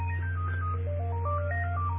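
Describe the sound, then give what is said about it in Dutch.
A phone rings with an electronic melodic ringtone, a quick run of steady tones stepping up and down in pitch over a constant low hum. No one speaks. “Ik ga hem even opnemen.”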